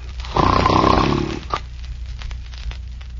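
A man snores once, a long, loud rasping inhale of about a second, followed by quiet low background noise with no talking.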